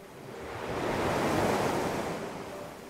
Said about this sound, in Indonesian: Itu memang suasana di pantai itu sunyi senyap. Hanya terdengar deburan ombak saja.